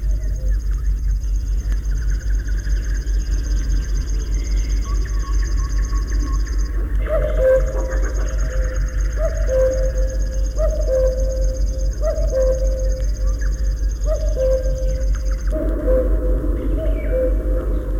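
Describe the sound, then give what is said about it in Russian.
A river warbler delivers a steady, insect-like buzzing trill that runs on continuously with one brief pause, while low, repeated two-note calls from another bird sound in the background. “думаете, что это стрекочет кузнечик? Это песни камышовки.”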